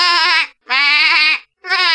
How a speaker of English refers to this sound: That's a sheep.